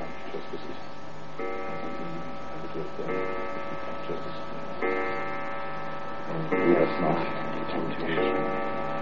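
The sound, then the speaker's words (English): A clock strikes twelve at a slow, even pace, each ringing chime swelling and lingering before the next, with a faint steady rumble beneath. “Sir Dominic and his reverence were together in the room, you see, and kept up their prayers till the clock struck 12”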